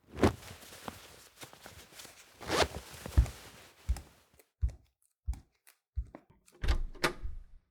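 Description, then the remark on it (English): A door is opened, starting with scraping and rattling of the latch and handle, followed by a series of separate clunks and thuds, with no voices. “Dude, open up. I said open the fucking door.”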